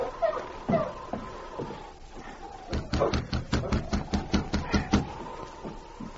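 A rapid series of about ten sharp knocks on the wooden door of an isolated cabin while it is snowing, fairly loud, after a few scattered softer taps and faint background rustle.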